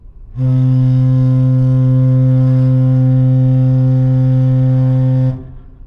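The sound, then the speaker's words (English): A ship's foghorn gives one long, loud, steady blast lasting about five seconds, a deep, buzzy low tone rich in overtones, then cuts off abruptly, leaving only a faint hum. “After the ship's foghorn, you heard an excerpt from a National Weather Service dense fog advisory”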